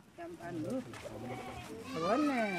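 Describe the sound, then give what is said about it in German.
Goats and sheep bleat repeatedly as they roam among small mud houses in the village of Djagourou, wavering calls rising and falling, with a louder, drawn-out bleat toward the end over a busy outdoor background. “Schafe und Ziegen laufen zwischen den kleinen Lehmhäusern herum.”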